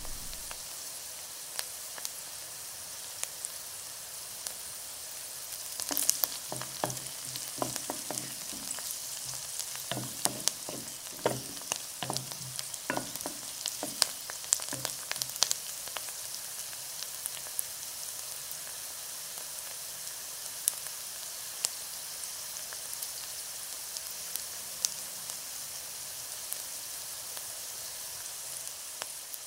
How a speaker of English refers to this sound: Onions frying in my flat was a sound that was important to a young Japanese immigrant living in London, as it reminded her of home cooking.